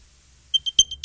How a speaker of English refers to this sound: Oh, they're beeping in your purse. I can hear them. Oh, man, they're in this purse somewhere.